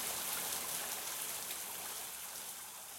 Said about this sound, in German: während das Lachen immer lauter wurde und sich mit dem Rauschen des Regens verband.